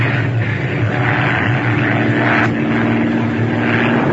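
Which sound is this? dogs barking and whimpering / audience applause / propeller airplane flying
propeller airplane flying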